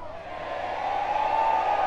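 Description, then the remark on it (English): An audience yells together in one sustained, rising roar of voices, swelling steadily louder over about two seconds with no individual words distinguishable. “Yeah, but you can yell louder than that.”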